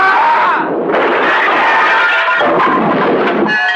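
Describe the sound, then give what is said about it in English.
A loud blast from a pump gun exploding, followed by a dense wash of rumbling, crackling noise that stays heavy for a few seconds with no voices. “The pump gun landed in Fitch's middle and exploded.”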